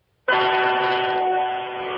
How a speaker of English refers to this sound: That's the worst-sounding truck horn I've ever heard.